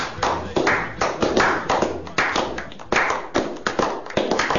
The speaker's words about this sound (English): You can hear it in the applause. You can hear it. It may not be a lot of hands, but it's passion. They're passionate hands.